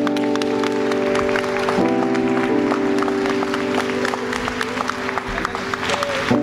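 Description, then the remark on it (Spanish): A crowd applauds steadily for several seconds, a dense patter of clapping over sustained keyboard chords playing underneath. “Un fuerte aplauso.”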